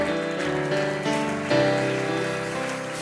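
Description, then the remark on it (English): An audience applauds with steady, dense hand clapping that holds for about three seconds, with sustained organ-like musical tones running underneath and no one speaking. “Again, let's give them a hand clap tonight.”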